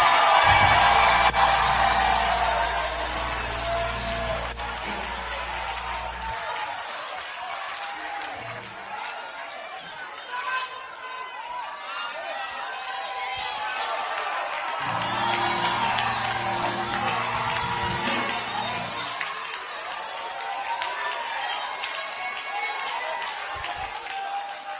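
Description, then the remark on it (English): A church audience claps and shouts hallelujah in sustained, loud jubilation for about twenty-five seconds, voices overlapping in a dense roar, with low organ-like chords swelling beneath at the start and again midway. “Clap your hands and scream hallelujah.”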